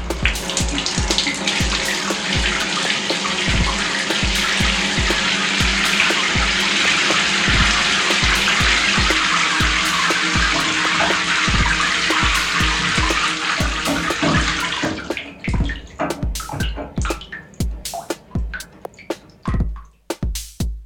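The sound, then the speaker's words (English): A shower runs in a steady, loud hiss of falling water for about fifteen seconds, then shuts off, leaving scattered drips and small knocks. No one speaks. “Long story short, I would take a shower.”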